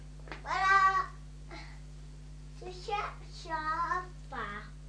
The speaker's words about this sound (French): Vous voyez le petit chat là?